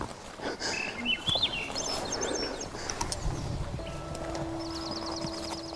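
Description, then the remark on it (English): Birds sing outdoors in the wooded outskirts of a Yukon subdivision: a few quick, warbling chirps early on, then a rapid high trill toward the end, over a steady rustling, shuffling background and a low hum. “Peaceful having the birds sing.”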